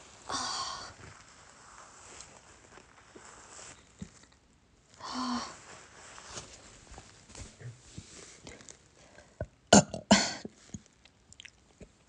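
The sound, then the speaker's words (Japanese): Several short throaty burps from a person who has drunk too much come at irregular intervals, with quiet rustling and faint scraping noises in between and no talking. “めっちゃゲップ出る。”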